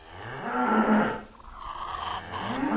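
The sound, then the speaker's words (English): Dairy cows moo on green pasture at a 90-cow organic dairy farm in southeast Minnesota, one long, drawn-out low call followed by another starting near the end, with a soft outdoor background hum between them. “And the 90 cows that provide milk live on green pasture for all but the cold winter months.”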